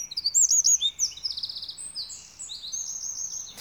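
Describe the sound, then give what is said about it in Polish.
A small brown songbird, about 11 cm long with an upturned tail, sings a rapid, varied, very shrill song of modulated chirps and trills, high-pitched, continuing steadily over a quiet background with no talking. “Brązowy, niewielki ptaszek, 11 cm długości ciała z zadartym ogonkiem takim do góry, o bardzo piskliwym, ale zmiennomodulowanym śpiewie.”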